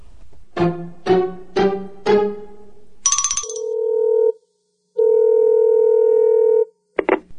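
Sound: telephone ringing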